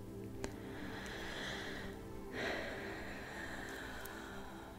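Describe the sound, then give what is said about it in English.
A soft, drawn-out breath in through the nose during a breathing exercise, a steady airy hiss that swells briefly midway, with no one speaking. “Breathing in through the nose. Even if it makes that annoying little whistle, it's still best to breathe in through the nose and then exhaling.”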